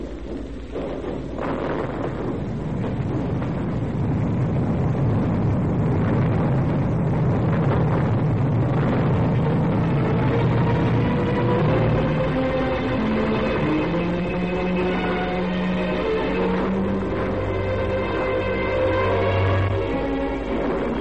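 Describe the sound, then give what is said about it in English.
A heavy locomotive engine starts and rumbles and chugs very slowly in reverse, a loud, continuous mechanical roar that settles into a steady droning hum with whining tones, no voices. “Start the engine and go backwards very slowly.”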